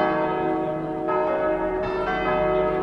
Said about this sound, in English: An iconic old bell tower that gets excited about weddings.